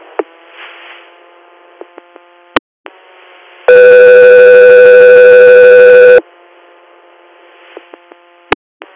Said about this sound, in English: Guthrie Air, stand by for tones.